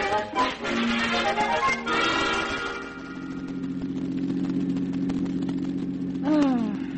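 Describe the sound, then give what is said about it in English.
A car engine labors up a grade on the drive to a rented lake cabin, its pitch climbing and dropping through gear changes before settling into a steady, strained drone, with a brief whining sweep near the end. “Can't you drive any faster, Tom? Well, this is quite a little grade, you know.”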